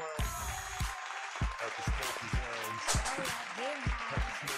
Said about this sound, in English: Shout out to the sponsors again, man. Give them a round of applause one time.